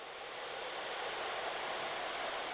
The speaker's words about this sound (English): Some sounds are hiding in plain sight, but we don't have the subtlety of perception to pick them out. Tristan Parrish's microtonal wall emits white noise.